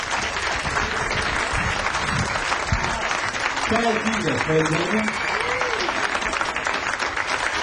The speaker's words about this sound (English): For coming here to get your claps on record. Thank you very much for recording your claps.